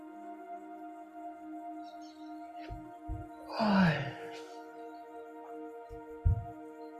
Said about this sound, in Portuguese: Fazendo uma respiração profunda.